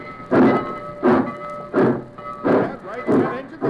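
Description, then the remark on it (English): A train engine chugs steadily, with five loud, regular puffs of steam about two-thirds of a second apart over a constant mechanical hum, as the locomotive of a train carrying cattle is started again and pulls away. “get that engine started again.”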